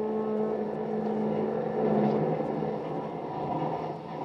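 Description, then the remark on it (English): A sleek, long streamliner train heads out of New York, rolling steadily along the tracks, its continuous low rumble and mechanical drone fairly loud throughout, with no voices present. “two other men interested in Joe Palooka travel by train, only on a different kind of train”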